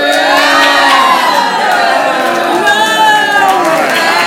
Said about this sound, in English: We've got some boos, we've got some yays. So those of you chanting yay, I'm going to keep you right where you're at. And those of you booing, I'm going to move you, because I can't have anyone in a good mood in 8th grade.